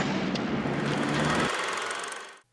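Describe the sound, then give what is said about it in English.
A small scooter engine roars loudly and steadily, its low buzzing drone dropping away partway through while the rasp continues, then cuts off abruptly, as Jimmy steals Ace's scooter and drives off in a movie. “He steals Ace's scooter.”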